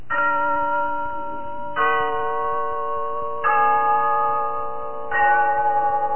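The clock bell in Glen Falls Town Hall chimes four slow, evenly spaced strokes, each rich, ringing tone sustaining into the next. No voices are heard.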